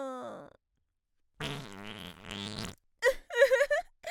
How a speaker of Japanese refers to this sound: 気が緩んでまた屁こいちゃった。